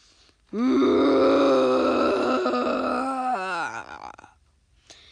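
A deep, loud monstrous roar bellows for about three seconds, rough and growling with rich low harmonics, then sags downward in pitch and fades out.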